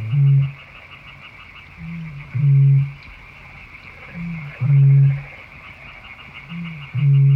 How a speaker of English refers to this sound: Yeah, it's a bittern. They don't actually breed here, but you can hear them in winter. Nothing booms like a bittern.